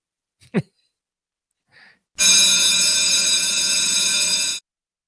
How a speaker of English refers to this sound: that's the bell every day on Busted Pencils. That bell rings, and what happens? We go right into democracy in action.